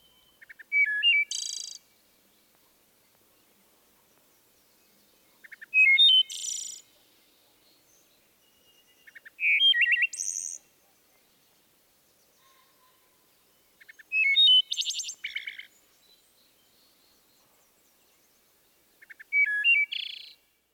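A wood thrush sings five separate phrases at steady intervals, each a few soft introductory notes, a clear flute-like ee-oh-lay, and a high fluttering trill, with quiet pauses between, alone.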